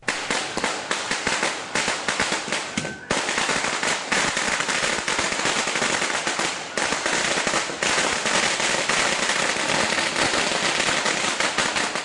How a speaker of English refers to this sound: Well, we are here with the celebrations and the fireworks.